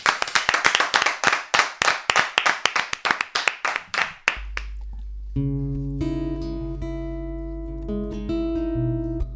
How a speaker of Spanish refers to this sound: Con este aplauso marchamos con música en directo.